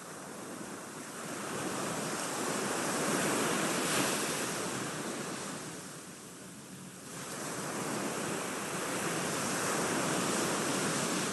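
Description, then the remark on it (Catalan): Steady wash of sea waves breaking on a shore, a broad roaring hiss that swells, eases briefly around the middle, then rises again. Continuous, no voices. “Relaxeu-vos uns instants amb la banda sonora del mar.”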